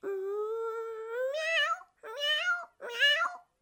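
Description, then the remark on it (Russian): A human voice imitates a dog barking: one long, drawn-out rising call followed by two shorter yelps, with no background noise. “Ну тогда попробуй ты залаять.”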